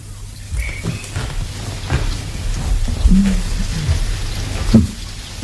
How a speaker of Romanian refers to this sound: Dar plouă, mamă.